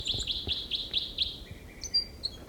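A songbird, recorded as bird six, sings a short song phrase: six quick, evenly spaced high notes in a row, then a few thinner, higher whistled notes, fairly clear over a low rumbling background.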